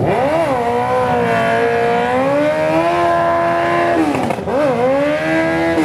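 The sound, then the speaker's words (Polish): A car doing a burnout, its engine revving loud and steady with tires spinning, the pitch holding high before briefly dropping and climbing again near the end. “Palenie gumy”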